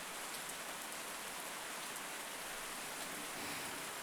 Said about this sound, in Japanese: 雨ですね。